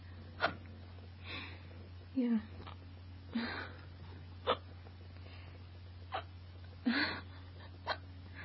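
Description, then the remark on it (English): A series of sharp hiccups, about seven of them at uneven intervals over a steady low hum, with small breathy noises between some of the hiccups. “I'm just gonna make a recording, just because I can, and I still have hiccups.”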